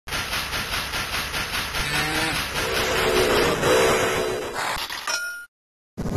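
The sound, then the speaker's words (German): A steam locomotive chuffs in a steady, rapid rhythm, loud, pushing out steam, while a short tone from its small whistle rises over the puffing midway through before the sound cuts off abruptly. “Also der Dampf, der da aus dieser Lok rausstößt und diese kleine Pfeife, die man da hört, das ist schon, boah, das sieht schon toll aus.”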